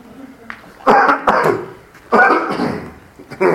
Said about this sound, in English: Let me clear my throat.